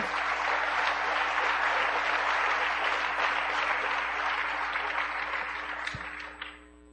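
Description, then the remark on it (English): A crowd applauds in a dense, steady wash of many hands clapping, holding strong for about six seconds before tapering off at the end, with no voices. “Yeah, clap if you want to.”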